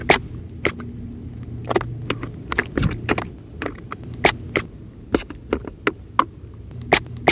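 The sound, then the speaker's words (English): Scallops clapping their shells underwater at Martha's Vineyard: a string of sharp, dry clicks at an irregular pace, some in quick pairs, over a steady low hum with no voices. “Scallops clapping on Martha's Vineyard.”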